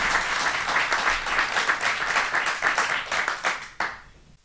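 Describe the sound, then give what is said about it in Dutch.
A crowd applauds steadily, a dense patter of many hands clapping at full volume for about four seconds before it thins out and fades away. No one speaks over it. “Ik wil een hartelijk applaus voor.”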